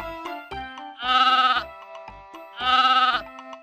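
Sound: goat bleating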